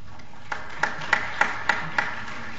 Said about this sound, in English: I know some of you clapped, and some of you were like, are we supposed to be clapping? What are we doing?